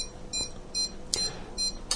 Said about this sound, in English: I've just taken my finger off of the carrier. I'll put it back on. So that very slow beeping means the SWR is right down.